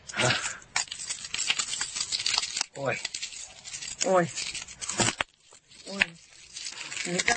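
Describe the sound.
Gritty crunching and crackling as a woman crushes the glass of a light bulb, already broken with a hammer, in her bare hand, irregular bursts of snapping shards as it grinds finer toward dust, with people talking and exclaiming briefly over it.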